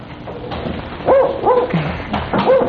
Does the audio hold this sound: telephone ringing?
no